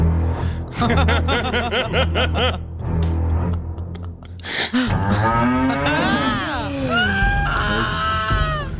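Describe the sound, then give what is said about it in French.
A rhythmic, chuckling series of voiced bursts gives way to loud, drawn-out cow moos that bend up and down in pitch, filling the last few seconds. “Bref, le risque d'être tué par une vache est faible, mais jamais de zéro.”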